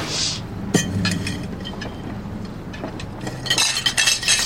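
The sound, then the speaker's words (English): Dishes and glasses clink while being washed up: a sharp clink early on, scattered softer knocks, then a busy cluster of rattling clinks toward the end, with no talking. “I'll just do the dishes now.”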